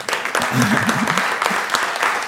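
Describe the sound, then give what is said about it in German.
A crowd claps steadily in thanks to a guest, a dense patter of many hands for a couple of seconds, with a faint voice murmuring briefly underneath. “Ein Applaus.”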